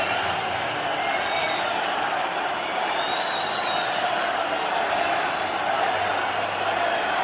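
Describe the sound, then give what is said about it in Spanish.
A large crowd in the stands shouts "fuera" and jeers at the mayor of Málaga at a trophy presentation, in a dense, continuous roar of many voices, holding a steady, loud level throughout with no single voice standing out. “gritos de fuera, fuera al alcalde de Málaga.”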